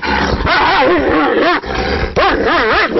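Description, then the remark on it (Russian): A dog named Barya barks and yips at its kennel, where a boy with a camera sits, in a steady run of loud, high-pitched cries whose pitch wavers up and down, with two brief breaks in the noise. “Представляете, возвращаетесь вы в свою конуру, а там какой-то непонятный малолетний пацан с камерой в руках сидит.”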